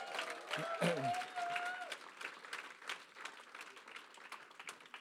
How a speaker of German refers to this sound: Vielen Dank unseren super Schauspielern. Gibt es ja noch mal einen kräftigen Applaus.